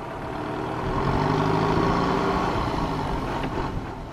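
A bus's large diesel engine idles steadily while the bus waits, a low rumbling drone with a faint rhythmic throb that holds constant throughout, with no one speaking.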